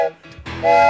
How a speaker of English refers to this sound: This is a train whistle.